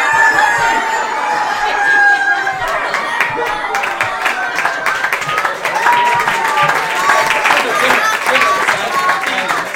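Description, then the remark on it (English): On a count of three, a crowd of people imitate chicken clucks and crowing all at once, a loud, continuous jumble of squawking voices layered together with no pause. “All right, so send the call. You do the motion. Motion, everybody call.”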